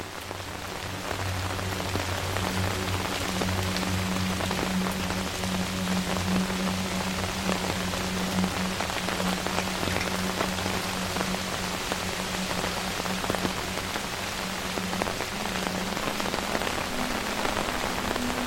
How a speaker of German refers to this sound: Gehst weiter, spürst die feuchte Kühle der Luft auf deiner Haut und hörst das gleichmäßige Rauschen des Regens.